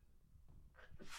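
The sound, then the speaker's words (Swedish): A single sneeze: a quick sharp intake of breath followed by a loud, breathy burst that ends the moment, with no talking. “Prosit. Tack.”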